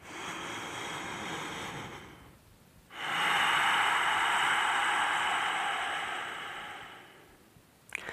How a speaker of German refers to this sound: Also ihr hört total lauter, hörbarer Atmen, der so ein bisschen reibt. Das per se entspannt schon mal.